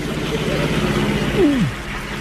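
A steady, low rumbling drone of heavy lorry engines driving along, holding an even pitch before a brief downward sweep near the end, with no voices.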